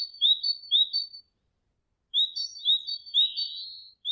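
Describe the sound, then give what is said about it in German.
A great tit sings bright, high-pitched repeated notes in two short bursts separated by a pause of silence, clear, with no voices present. “Das ist ganz klar die Kohlmeise.”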